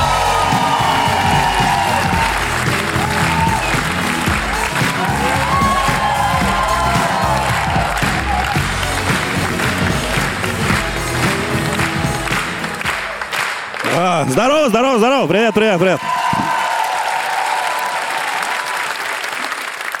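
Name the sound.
audience applause and cheering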